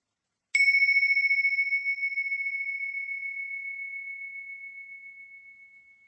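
A single bright bell is struck once and rings out, its clear tone shimmering and slowly fading over several seconds with no one speaking.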